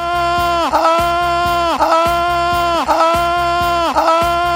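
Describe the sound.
A person imitates a rutting stag: four loud, drawn-out bellowing calls in a steady rhythm, each rich and nasal and ending in a falling groan, with no talking in between.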